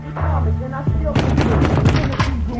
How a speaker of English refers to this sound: pounds on Jack's door.